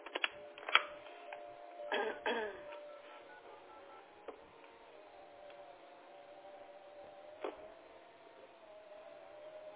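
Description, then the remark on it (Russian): A telephone number is dialed to call a plumber: a few short clicks and keypad beeps over a thin, narrow-band line hum, with faint background murmur, fairly quiet throughout. “Минутку, подождите, пожалуйста, я сантехнику позвоню и вернусь к вам.”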